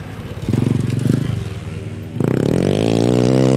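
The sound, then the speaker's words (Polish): A speedway motorcycle engine blares, loud and rough, on a speedway training track in Lublin, then climbs into a higher, steady revving roar that holds to the end. “Kiedyś te tłumiki były znacznie głośniejsze, donośniejsze i to było fascynujące dla małego dzieciaka”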